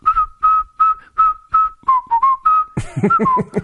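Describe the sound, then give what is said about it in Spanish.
Someone whistles a cheerful, bouncy tune in a steady run of short, clear notes, then a burst of singing voices and music takes over near the end. “Se ponen a cantar y a silbar, busca el lado positivo de la vida.”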